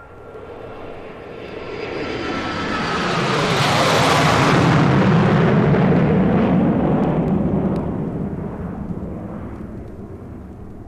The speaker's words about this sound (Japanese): さて、ここは国際空港です。あなたの後ろで飛び立ったジェット機は頭上を前の方へ飛び去ります。